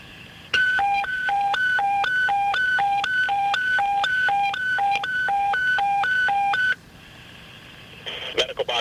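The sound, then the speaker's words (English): Radio dispatch paging tones: a loud, steady two-pitch warble alternating rapidly high and low for about six seconds, then cutting off, followed by a brief burst of radio static. “You disregard your tones.”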